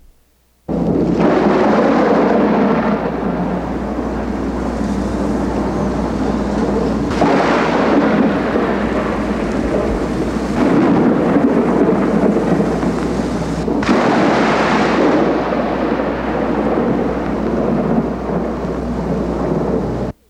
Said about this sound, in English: Now imagine the wild lightning and thunder of a rainstorm. Listen to its noise.